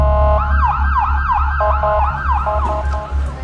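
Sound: ambulance siren wailing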